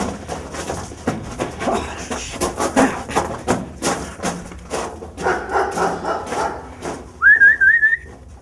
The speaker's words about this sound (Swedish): Jag slog av på stegen och började vissla på henne och lyssna noga efter om hon svarade, men hörde ingenting.